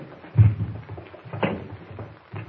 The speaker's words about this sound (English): All right, now, suppose you pull a chair up to the table here.